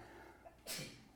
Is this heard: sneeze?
yes